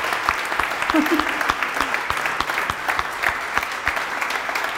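A crowd applauds steadily for several seconds, dense overlapping claps forming a continuous wash of sound with no pauses, fairly loud and close.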